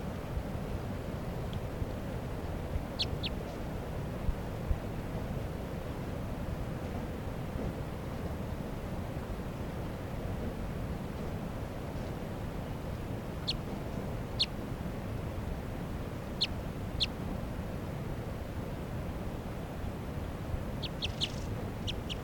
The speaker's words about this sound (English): And now she's flying down to 387. Wild bird. Left crossing bill. Definite female, real light color. Calling rapidly now. Back up to the top of a tree.